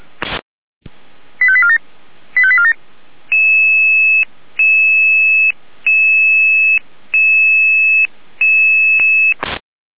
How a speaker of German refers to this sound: Den Alarmruf.